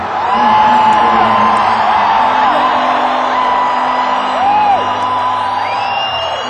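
A large crowd cheers and whoops continuously, with several rising and falling whistle-like whoops and yells cutting through a steady, loud wash of noise.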